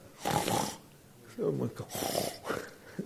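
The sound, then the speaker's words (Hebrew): Someone imitates snoring with a series of loud, rasping vocal snorts, about three or four bursts in quick succession, with short pauses between them. “שמעתם נחירה?”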